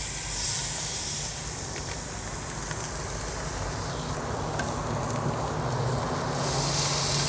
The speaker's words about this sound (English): the cast iron skillet has been on the grill getting nice and hot, so we should have a pretty good sizzle as soon as these things hit the skillet. We're going to go skin side down first.